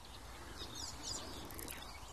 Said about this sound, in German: Aber der Vogel, auf den wir es abgesehen haben, der ist genau vor uns. Man hört vielleicht diese quietschenden Geräusche. Mie, mie, mie, mie. Mie, mie. Mie, mie. Also wenn er einen atypischen Sound hat, dann wäre es vielleicht dieser.